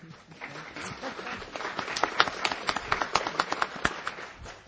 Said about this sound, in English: Please, anytime you feel like applauding, do so. We love that.